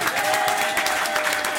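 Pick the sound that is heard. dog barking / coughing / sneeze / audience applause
audience applause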